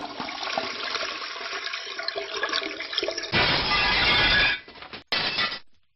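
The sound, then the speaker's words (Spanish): A toilet flushes with a loud rush of water that surges for about a second and then trails off, preceded by rattling, clinking noises and followed by a brief final gurgle. “El servicio.”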